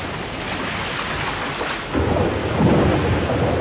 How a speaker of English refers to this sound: It rained heavily that night. The rain was pouring down, cleansing the atmosphere, washing the leaves and flowers.